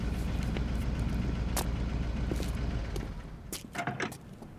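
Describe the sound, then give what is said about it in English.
A blue truck's engine sputters and rumbles low and steady at a distance for a few seconds, then fades, followed by a few sharp clunks and rattles. “Saul tried to teach me and I just had about it figured out as the blue truck sputtered in the distance.”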